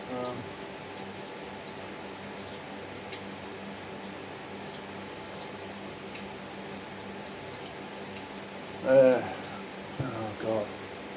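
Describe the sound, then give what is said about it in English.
Water runs steadily from a shower in a steady hiss that fills the whole recording, with a brief louder muffled burst near the end. “Trying to have a shower.”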